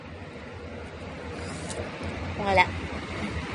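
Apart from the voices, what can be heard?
car passing by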